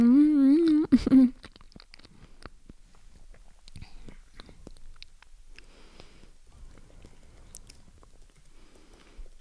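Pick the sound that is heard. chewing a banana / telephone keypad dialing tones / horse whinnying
chewing a banana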